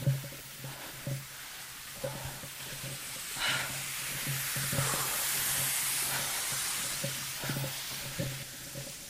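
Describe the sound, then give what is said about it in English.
Compressed air hisses steadily from a pneumatic drill line in a low, wet tunnel, a loud, bright, continuous rush with a low steady hum underneath and a few faint knocks scattered through. “That's the air there for pneumatic drills.”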